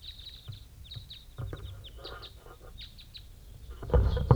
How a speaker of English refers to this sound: There's a bunch of other crossbills around. I'm recording them as they get going.